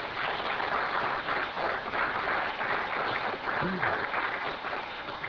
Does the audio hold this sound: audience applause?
yes